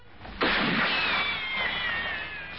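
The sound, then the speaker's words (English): Gunfire from Japanese forces firing from a tree on the back of a lorry in Burma bursts in abruptly with a loud crack, then trails into a long rushing hiss laced with a thin, high whistle that slowly falls in pitch. No voices are heard. “Those Japs are firing at us.”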